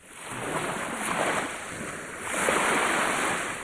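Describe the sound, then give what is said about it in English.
Ocean waves roll and crash in a steady, broad wash of surf, swelling louder toward the end, with a windy, noisy texture and no voices. “When the waves come, they're usually way over the seawalls that a lot of people have built across the seashore.”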